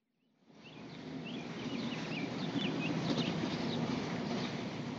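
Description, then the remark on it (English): Outdoor ambience at the construction site of an aquatic center in Rogers fades in: a steady low whir of power tools, with scattered small birds chirping lightly above it. No one speaks. “Earlier this week, the site of the Rogers Aquatic Center was fairly quiet, save for a few whirling power tools and chirping birds.”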